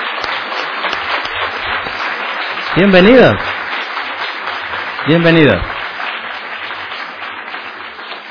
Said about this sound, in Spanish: Así que, che, le damos un aplauso a esta gente que vino hoy día a estar con nosotros.